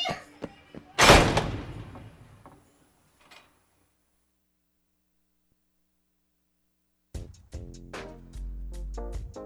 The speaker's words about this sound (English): Wait! Hey! Don't let that door close! Wait for me!